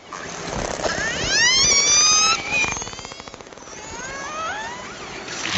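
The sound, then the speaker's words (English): Icelandic killer whales make calls while hunting herring: high, rising squeals with layered harmonics, a burst of rapid buzzing pulses, then more upward-sweeping whistles over a steady watery hiss, with no talking. “These Icelandic killer whales aren't making these sounds for fun. They're using them to hunt their favorite food, herring.”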